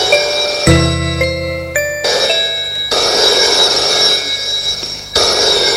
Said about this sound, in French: Après-midi, le téléphone sonne.